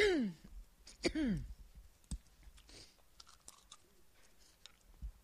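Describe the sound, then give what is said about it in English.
Mouth sounds as a person puts a cough drop in their mouth and chews it: a wrapper-like crinkle and a couple of sliding squeaks, then wet clicks and crunchy chewing noises scattered over several seconds, fairly quiet. “Let me try another cough drop.”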